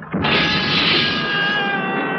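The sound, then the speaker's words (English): A single shrill scream that rises abruptly and holds for about two seconds, loud and steady with a piercing, strained tone, with no talking over it. “Don't anybody tell me I didn't hear a scream that time!”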